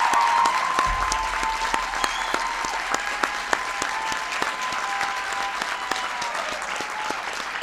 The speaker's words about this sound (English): And I left out Congressman Tom Cole. Well, there you go. Give Tom a big round of applause.